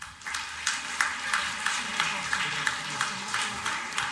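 An audience applauds: a steady, dense wash of clapping running for a few seconds, with brighter accents pulsing through it at a quick, fairly even rhythm.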